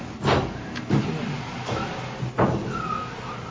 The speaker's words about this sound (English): I don't know, can you shut the door?